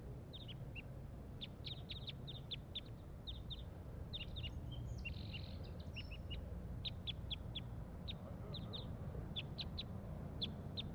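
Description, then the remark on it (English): A single wild crossbill up in the top of a pine tree calls over and over, giving sharp, high, clipped chips in quick little clusters above a steady low rumble of background noise. No one speaks. “So recording, there is one wild crossbill here up in the top of this pine tree. And this is it giving calls.”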